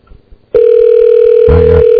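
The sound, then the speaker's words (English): A loud, steady telephone ringback tone starts after a brief quiet moment and holds on continuously, with a short murmur of low sound briefly beneath it near the end. “Still ringing.”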